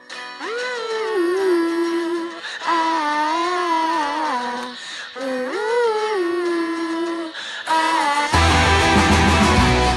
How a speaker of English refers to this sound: A teenage girl opens up her laptop in her bedroom and takes a sip of a drink. Time passes and she clicks on some music.